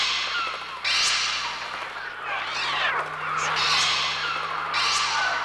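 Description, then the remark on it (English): Electronic bird cries performed by Oskar Sala on a Mixtur-Trautonium for a Hitchcock film: harsh, shrill squawks sweeping up and down in overlapping bursts over a steady low drone, loud and unbroken, with no one speaking. “So actually those sounds that you hear that you nominally think are bird sounds are performed on the Mixter Trautonium”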